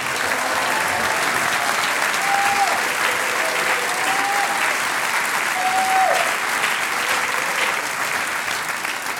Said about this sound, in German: Die zwei Damen und die zwei Herren von Dreifach Zittrig. Großer Applaus.